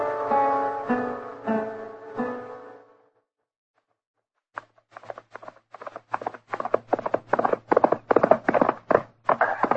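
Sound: horse hooves clip-clopping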